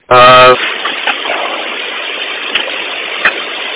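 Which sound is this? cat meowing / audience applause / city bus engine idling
city bus engine idling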